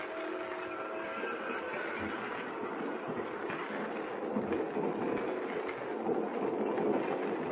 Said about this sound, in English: As the fast express roars into the night, both Jimmy and Kent have their heads bent low over the scrap of paper.